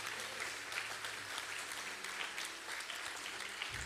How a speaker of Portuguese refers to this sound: Quem crê nisso, dê uma salva de palmas ao Senhor. Eu creio nisso.